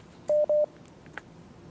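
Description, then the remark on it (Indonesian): Two short, steady electronic dialing tones of a telephone or WhatsApp call line beep in quick succession, clear, followed by a faint click over a quiet line hiss, as a caller's question is taken. “Masih kita akan angkat pertanyaan berikutnya Ustaz, dan kali ini kita akan angkat melalui line telepon atau line telepon WhatsApp”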